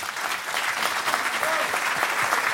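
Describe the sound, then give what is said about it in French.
Steady audience applause at a live France Musique broadcast from the Carreau du Temple, following a performance accompanied by piano and harp, fills the whole stretch, a dense, even patter of many hands clapping at a consistent loudness with no voices standing out. “On peut les applaudir et on peut aussi vous applaudir”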